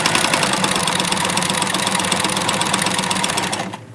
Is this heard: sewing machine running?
yes